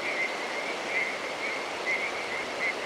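A dense chorus of tree frogs at dusk at Little Rock Creek, with high-pitched calls pulsing in a rough rhythm about twice a second over a steady, hissing wash of overlapping croaks. No voices.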